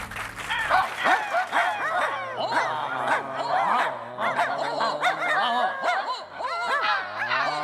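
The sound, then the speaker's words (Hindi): A dog barks and yelps almost nonstop, the sharp, high calls overlapping in a busy, fairly loud stream over a low steady hum. “इजाला नानाचा dialogue ऐकून कुत्रा पक्का पिसले”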